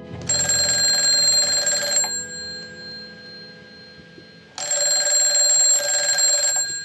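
A loud telephone bell rings in two long, rattling bursts separated by a pause of a couple of seconds, with no voices and only a faint low hum underneath.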